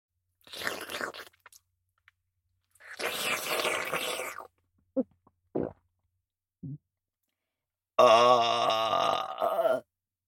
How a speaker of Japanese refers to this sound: ケツ穴にホーリーゲップ、ぶち込んでおきましたわ。